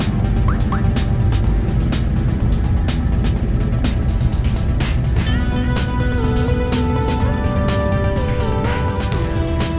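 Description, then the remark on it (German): A bus engine roars steadily and loudly, a dense continuous rumble with rattling knocks, and shifting whining tones that join in about halfway through. No one speaks. “Verdammt, der Bus lässt sich nicht steuern.”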